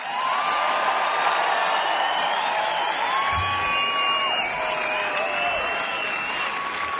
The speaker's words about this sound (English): Before we go, can I get a massive round of applause